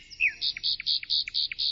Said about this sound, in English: I use my ears to hear. I hear birds singing.